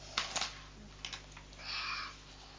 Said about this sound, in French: Au bord de la feuille? Oui. Ici, parce que maintenant, je vais découper ici pour la ligne de ciseaux-là, parce que